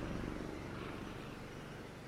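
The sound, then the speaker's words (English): A helicopter hovers, illuminating a cliff's rocky shore during a Garda land and sea search, its rotor thudding in a rapid, even chop beneath a constant engine roar, with no voices present. “Divers spent hours inspecting the waters, and helicopters illuminated the cliff's rock shore below.”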